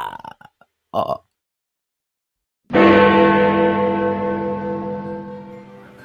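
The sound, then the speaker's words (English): A few brief, gruff vocal bursts, then a short pause before a loud, deep Big Ben-style clock bell chime jingle strikes once, introducing a weekly news round segment, and rings out with a long, slowly fading resonant tail. “It is the chimes of Big Ben Kenobi, which can only mean one thing, my friend.”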